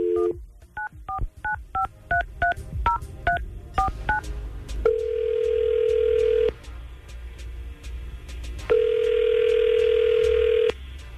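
A rapid string of about a dozen touch-tone beeps as Tampa Bay's Morning Crew on 995 QIK dial a phone number, followed by two long, steady ringing tones separated by a pause. No one speaks.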